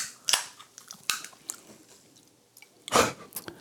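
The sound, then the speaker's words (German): Crisp crunching from a man munching snacks out of a bag, several sharp bites and crackles spaced irregularly, with a louder cluster near the end and no talking. “jetzt geht er wieder an seine Tüte ran, Alter, ich werd wahnsinnig.”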